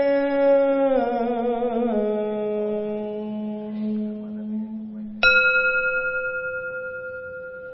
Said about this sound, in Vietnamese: Tiếng chuông huyền diệu đưa về nhất tâm.